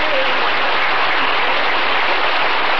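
A steady burst of canned applause, many hands clapping in a dense, even wash of sound that stays loud and constant for a few seconds, with no voices.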